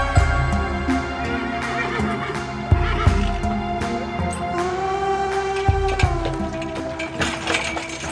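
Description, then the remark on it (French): A horse whinnies and neighs over a busy backdrop of hoof clops and wooden knocks and creaks as it pulls a cart carrying mortar for masons building the Gothic window of the chapel at Guédelon, with no one speaking. “Un cheval qui porte une carriole, qui transporte le mortier, qui servira aux maçons, qui construit la fenêtre gothique de la chapelle de Guédelon.”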